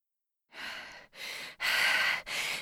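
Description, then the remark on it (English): Heavy, rapid breathing: four loud, breathy exhalations in quick succession, each a rough rush of air with brief gaps between, like someone panting hard after exertion. “The Blizzards fell on the ground, breathing heavily.”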